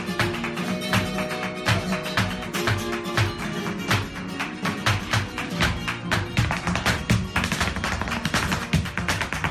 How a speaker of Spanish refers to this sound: Y esto que escuchas es el taconeo de Jesús Carmona, Premio Nacional de Danza 2020.